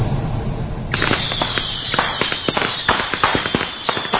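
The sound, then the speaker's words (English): Firecracker rockets go off in a dense, crackling barrage: dozens of sharp pops and bangs fire in quick, irregular succession for several seconds, loud, with no voices. “He had fired off the firecracker rockets that said...”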